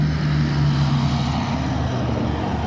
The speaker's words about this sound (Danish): Der er til lytterne, jamen der er bare godt med trafik alle steder, når man skal ud til kysten i nærheden af Aarhus. Der kommer lidt biler, og det er lastbiler forbi.